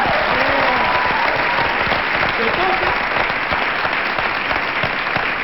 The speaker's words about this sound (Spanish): un aplauso para nuestro valor.